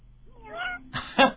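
Cats meowing: a soft, wavering meow is followed by two louder, harsher cries in quick succession, with no talking.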